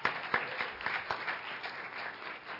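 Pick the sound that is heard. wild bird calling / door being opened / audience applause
audience applause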